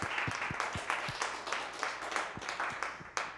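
A church audience applauds its pastors steadily, many hands clapping in a dense, continuous patter with a few sharper individual claps standing out, sustained at an even moderate level throughout.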